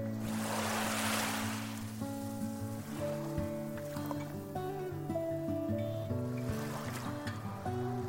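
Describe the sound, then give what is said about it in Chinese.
Ocean waves break on a clean sandy beach in two soft, rushing surges, one early and one near the end, while gentle sustained music plays steadily underneath. “走着走着，他听到了大海的声音。”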